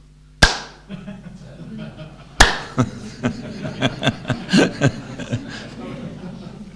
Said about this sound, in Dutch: En die indiaan die klapt zo.